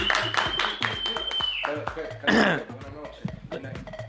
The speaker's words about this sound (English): Clap it up